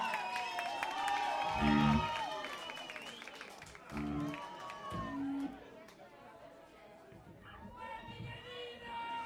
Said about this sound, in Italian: Signore e signori, un applauso alla maschera più celebre al basso.